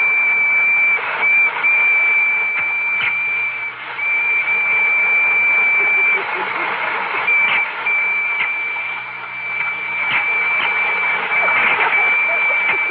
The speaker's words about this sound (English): Spangles, are the electric trains ready? Oh, I think they're all lined up. Well, start one up and let's see.